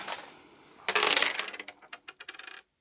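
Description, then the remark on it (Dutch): A dice cup is turned over and slams down onto a hard table, followed by a rapid, quickening patter of small dice clicks and rattles that settle into silence within two seconds, with no voices. “Keer die vervloekte bekker om.”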